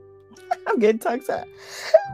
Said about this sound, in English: I'm getting tongue tied. Ooh, I'm sorry. I'm yawning, right?